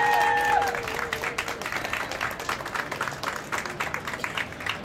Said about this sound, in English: Let's have a round of applause for our experts.